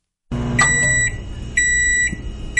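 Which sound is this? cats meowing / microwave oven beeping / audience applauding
microwave oven beeping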